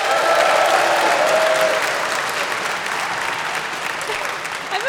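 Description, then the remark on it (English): A crowd claps steadily for about five seconds, a dense, crackling wash of many hands that stays fairly loud throughout and eases slightly toward the end, with faint murmuring mixed in. An audience claps to vote on a question about how many senators there are. “How many of you think you have between 50 and 100 senators? You have to clap.”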